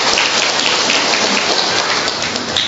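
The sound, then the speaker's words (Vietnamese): Dense, steady clapping from a crowd welcoming an elderly woman coming up to give testimony, a continuous crackling wash of many hands that stays loud and even for the whole stretch, with no voices heard. “Rồi chúng ta cho một tràng tay, không mời bà lên coi.”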